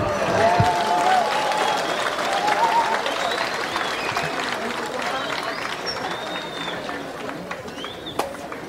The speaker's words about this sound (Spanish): Bueno, en estos momentos nos van a presentar pues el ciclo de poesía emergentes. Recibámoslos con un fuerte aplauso a los participantes.